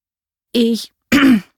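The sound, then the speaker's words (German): A boy clears his throat twice, fairly loud, two short rough rasps separated by a brief pause, with no talking. “Mehrfach musste ich mich räuspern.”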